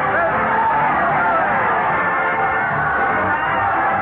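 crowd cheering

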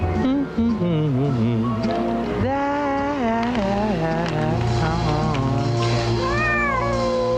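cat meowing

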